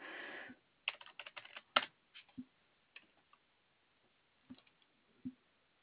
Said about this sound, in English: I could type properly, that would be great. My fingers seem to be a little bit large for my keyboard. Sorry.